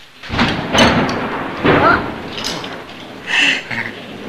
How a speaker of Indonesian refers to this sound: Mas takut petir gak?